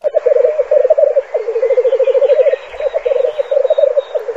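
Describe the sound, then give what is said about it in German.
Black grouse calling with a loud, continuous bubbling coo, rapid rolling pulses in low-mid pitch that run in long phrases with a brief pause midway, and no talking. “Es ist das in der Schweiz selten gewordene Bierkuhn.”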